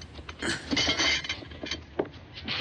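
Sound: plates and glasses clinking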